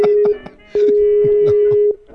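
The ringing tone of an outgoing phone call sounds as a steady electronic hum in two bursts, a short one then a longer one, loud, with voices talking faintly underneath.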